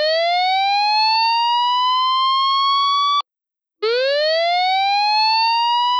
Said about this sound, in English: The new system has a lot of other advantages. It can send out different tones. This one is for a tsunami alert.